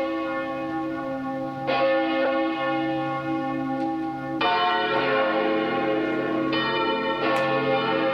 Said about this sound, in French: Par exemple, on a une belle paire ou une belle famille de cloches bien bénites, ça fait ça.